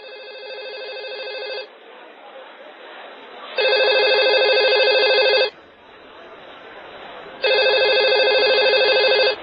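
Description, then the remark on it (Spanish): A telephone rings loudly in three long electronic bursts, each about two seconds, separated by short pauses filled with faint background noise. “que te suena el teléfono.”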